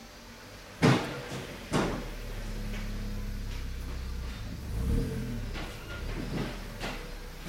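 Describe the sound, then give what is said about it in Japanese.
A Roadster car's engine hums low and steady, swelling and easing as the car is driven forward and back repeatedly to let it settle in after its ride height was restored, with two sharp clunks near the start and no one talking. “車が走っている音が聞こえますでしょうか。今ですね、前に後ろに行ったり来たり行ったり来たりして、あ、また帰ってきましたね。”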